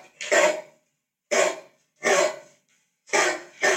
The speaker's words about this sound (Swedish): Jag kan försöka sätta på ljudet av en större hund här. Okej, okay, här kommer det.